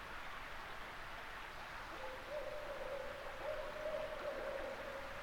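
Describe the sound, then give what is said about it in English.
Barred owls hoot faintly in the distance around 3 a.m., a low wavering call drawn out over a few seconds against a steady hiss of night ambience in a hollow under eastern hemlock trees, with no voices present. “The night is rather uneventful, until around 3 a.m., when barred owls sound off in the distance.”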